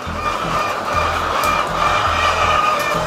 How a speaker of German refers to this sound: In zwei Hallen sind die Legehennen zu Amerswil untergebracht. Ihr grösseren sind 15'500 Hühner in Freilandhaltung.